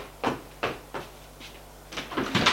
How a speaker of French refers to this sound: Puis, elle va ouvrir la porte de la maison.